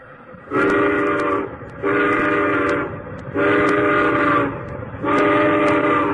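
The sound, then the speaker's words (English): A steam locomotive whistle sounds four loud toots in a steady rhythm, each lasting about a second with short pauses between, over a low rumbling background, blown at a hippo asleep on the track in front of a heavy train. “give him a toot on the whistle!”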